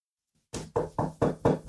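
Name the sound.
loud knocking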